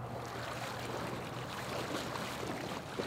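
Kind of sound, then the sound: nature, river water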